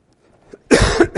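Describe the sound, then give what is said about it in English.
A short, loud cough bursts out after a moment of near silence during a church service, harsh and breathy, with a second rough hack right behind it. “Excuse me again for my coughing.”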